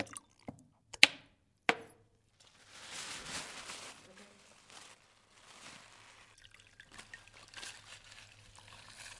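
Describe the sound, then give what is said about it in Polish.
A few sharp knocks at the start, then wet, squishy wiping and sloshing of water mixed with dishwashing liquid on window glass in close, uneven bursts, with faint sounds from people in the background. “Woda z płynem do mycia naczyń?”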